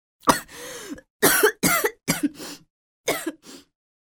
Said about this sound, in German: Aber ich hab noch Husten.